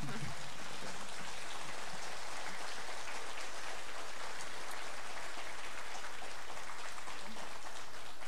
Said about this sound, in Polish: Pewnie to oklaski były.